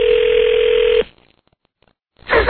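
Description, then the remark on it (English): A steady telephone dial tone hums loudly for about a second, then cuts off into near silence before a sudden burst of harsh line noise, as someone tries to call a major metropolitan radio station. “And now we're trying to call a major metropolitan radio station.”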